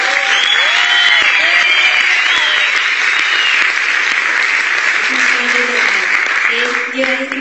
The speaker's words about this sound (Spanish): Y me gustaría también que ustedes con un fuerte aplauso hagan sentirle a los invitados que es una convención.